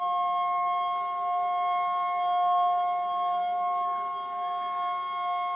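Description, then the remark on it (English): A siren sounds steadily, its sustained tones holding at a constant pitch for several seconds, loud and continuous with only slight swells in volume and no voices. “The siren sounded again.”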